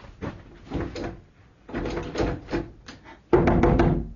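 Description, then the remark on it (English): Several rounds of knocking on the locked wooden door of an inner office come in short clustered bursts with brief pauses between, the final round noticeably louder and more insistent. No one speaks. “I knocked at the door, I called out.”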